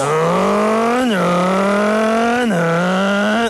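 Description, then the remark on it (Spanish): A voice imitates a short-stroke car engine revving, the third of three engine imitations, played again: a buzzy, steady drone that climbs in pitch three times, dropping back between each rise, loud throughout. “Es como de corto alcance ese carro. Es de pistón cortico.”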